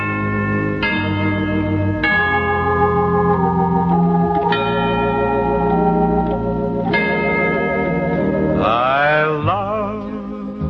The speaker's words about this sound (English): Hear the church bells ring on Sunday. The feeling that I get is heavenly. I love to hear the church bells ring on Sunday.